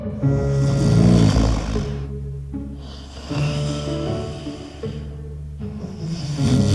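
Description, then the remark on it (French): Deep, rumbling snoring of Papa Bear, a brown bear asleep in his warm bed at midnight, loud, in about three long drawn-out snores with short pauses between them. No one speaks. “ronfle dans son lit bien chaud.”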